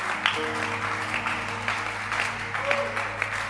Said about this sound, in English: Please pause the clapping. Pause the clapping.